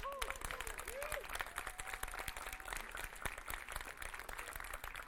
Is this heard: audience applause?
yes